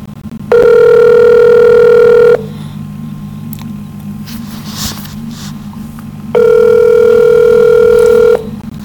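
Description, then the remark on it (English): A phone call to the Hillsborough Township Police Department rings out with two long, steady ringback tones about two seconds each, separated by a pause of roughly four seconds, over a low background hum, with no answer. “Hillsborough Township Police Department will never pick up my phone.”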